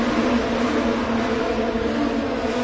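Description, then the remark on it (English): A steady, loud roar of Indy Lights race cars going by while competing in the Freedom 100 support race, a dense mechanical drone with a strong low hum, holding constant without breaks or voices. “The cars that are going by right now are competing in the Freedom 100, one of the support races in the Indy Lights series today.”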